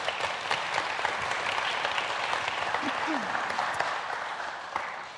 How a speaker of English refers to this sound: Can we give her a clap as she comes up?